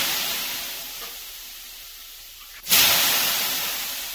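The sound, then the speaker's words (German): Water is poured on hot sauna stones: a steady hiss fades slowly, then a sudden loud burst of sizzling steam erupts and gradually tapers off, with no voices. “Sekunden nach dem Wasseraufguss erreicht einen die Hitzewelle und die ist wirklich extrem intensiv und tut zum Beispiel an den Ohrenspitzen richtig weh.”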